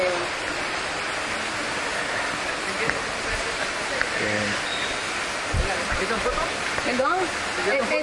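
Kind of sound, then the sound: nature, flowing river water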